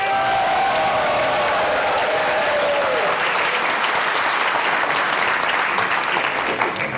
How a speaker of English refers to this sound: If you agree the affirmative was the better team, stand up and give them a clap. Okay, 73. Negative had the better case. Stand up and give them a clap.